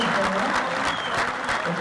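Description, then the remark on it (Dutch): An audience in a hall claps and sings along a little to a song, a steady wash of many hands at fairly even loudness, with crowd voices blended into the clapping throughout. “In de zaal werd er een beetje meegeklapt en een beetje meegehuld.”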